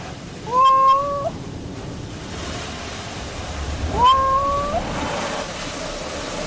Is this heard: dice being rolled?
no